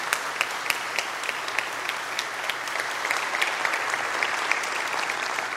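A steady round of applause from a church audience thanking a speaker, many hands clapping in a dense, crackling wash with sharp individual claps poking through, holding an even loudness throughout.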